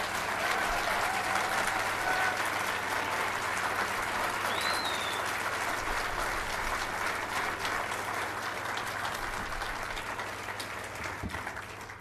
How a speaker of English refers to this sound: Let's have another round of applause for our young people.